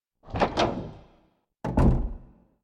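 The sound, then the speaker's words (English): The back door of a house opens with a rattling thud, then about a second later swings shut with a heavier, sharper bang. Both sounds are fairly loud, with no voices. “While I was finishing up and getting ready to wash my hands, I heard the back door open.”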